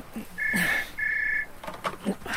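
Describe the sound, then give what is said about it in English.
A telephone rings with two short, steady electronic trill bursts in quick succession, then falls silent as faint rustling and movement follow. “the phone.”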